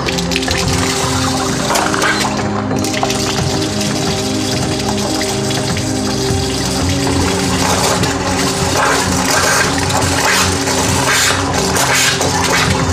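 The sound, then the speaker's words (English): Tap water carrying methane runs and gushes steadily and loudly as a kitchen match is held to it and the methane ignites, with a constant low mechanical hum underneath throughout and no voices. “I can often hold a standard kitchen match to my water, and like I said, it is unpredictable, but the methane randomly travels with the water, and sometimes it will light quite spectacularly.”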